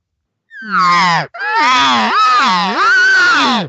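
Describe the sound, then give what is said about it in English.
A loud, nasal cow elk call made by a hunter to call a bull over: a short whining note, a brief break, then a longer wavering mew that rises and falls in pitch with strong harmonics, heard alone without talk. “And that's the cow telling the bull, come on over. She's encouraging him.”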